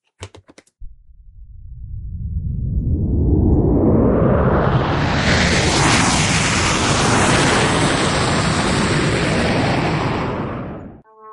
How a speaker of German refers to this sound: Hörst du das auch? Das ist aber ein lautes Flugzeug. Ich muss kurz gucken. Das ist bestimmt eine Lufthansa-Maschine, die fliegen immer so. Nein, ist ein Testflug von Finkenwerder.